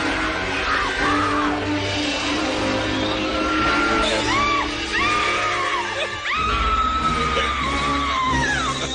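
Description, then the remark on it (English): Two stewardesses on a plane scream in fright at a spider running across the floor, a string of high, wavering shrieks that rise and fall one after another, loud, over a dense, noisy background. “I turned on the light and clearly saw a spider running across the floor before hearing two stewardesses screaming, "Spider."”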